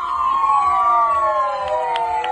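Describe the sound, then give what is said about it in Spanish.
Several ambulance sirens wail at once from a long line of ambulances outside the house of Amancio Ortega, sounded to thank him on his birthday, their overlapping tones slowly sliding downward in a loud, continuous chorus, with a low rumble of traffic beneath and no voices. “Había una fila de muchísimas ambulancias que han ido a agradecérselo de esa manera, haciendo sonar todas sus sirenas.”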